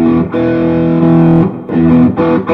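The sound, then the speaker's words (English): An electric guitar played through a distortion pedal and an amp turned down low plays sustained, thick chords in a few bursts with brief dips between them, loud, with a dark, slightly muffled overdriven tone and no voices. “it's a little dark sounding because I have the amp turned down so much. But it's basically like a really kind of like it's a great distortion”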